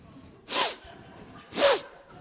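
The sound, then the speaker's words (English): Two quick, forceful sniffs through the nose, separated by about a second of quiet, as someone smells coffee. No talking. “You sniff it out, right?”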